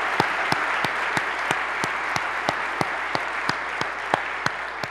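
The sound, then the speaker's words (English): An audience applauds steadily for representatives Amanda Price and Adam Zemke and Senator Phil Pavlo, dense clapping forming a continuous wash with a few sharper individual claps standing out at a brisk, regular pace. “We need you guys to get stand up for a good applause.”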